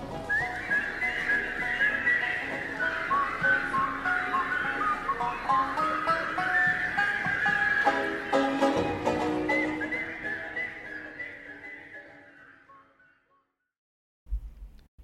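A person whistles a lively, wavering melody for about thirteen seconds over a full background. It fades into brief silence before a short burst of sound at the end.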